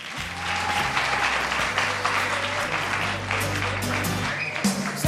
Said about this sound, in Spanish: ¡un aplauso!